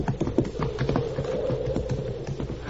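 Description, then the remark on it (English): Horses' hooves clip-clop in a quick, uneven rhythm, several animals moving at once with a steady clatter of hoofbeats over low rumbling, no voices. “Oh, the horses. He'll be after the horses.”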